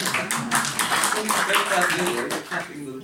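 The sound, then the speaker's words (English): A room full of people claps steadily for about three seconds, a dense, fairly loud patter of hands with a few voices mixed in beneath it. “You can clap if you want.”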